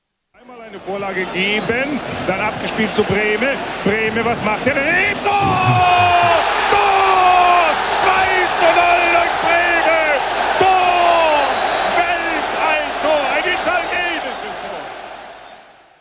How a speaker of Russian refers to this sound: Правильно, это футбольный матч. Вы знаете, где они происходят, и что крики могут означать гол, а ликование болельщиков – это реакция на забитый гол.